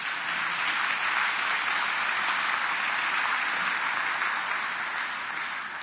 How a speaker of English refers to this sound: Now, I hope you're not applauding because I'm through.